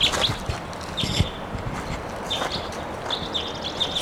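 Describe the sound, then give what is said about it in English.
A bird calls in short, high, repeated bursts, clustered in groups a second or so apart, standing out over steady background noise and a few dull knocks. “There's a loud bird, I think.”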